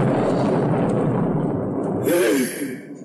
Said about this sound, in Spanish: En aquel momento se oyó un trueno y una voz enorme que resonó.